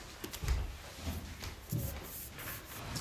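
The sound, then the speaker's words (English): A chair is pulled up, scraping and bumping across a floor, with a few dull low knocks and rubbing noises over about three seconds, and no one speaking. “do you want to pull up that chair?”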